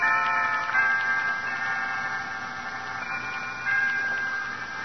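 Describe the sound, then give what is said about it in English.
A chiming clock in a house rings with sustained, overlapping metallic tones that hum steadily throughout, swelling slightly a couple of times, at moderate volume with no voices. “To the now silent ducts. To the still chiming clock.”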